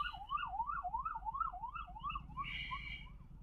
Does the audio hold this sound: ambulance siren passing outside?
yes